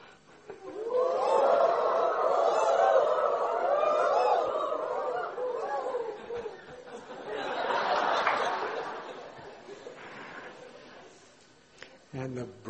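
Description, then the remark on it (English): A crowd of voices imitates cooing night birds in a loud, overlapping chorus, swelling for several seconds, fading, then rising again in a second wave, with some laughter mixed in. “And so many sweet night birds were cooing.”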